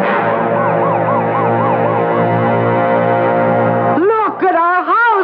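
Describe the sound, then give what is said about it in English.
Fire engine sirens wail loudly and steadily over a low engine rumble, cycling up and down, then shift near the end to a faster, sharper warbling siren, as the fire engines turn the corner and go down the block to a burning house. “We better get over to the curb fire engines.”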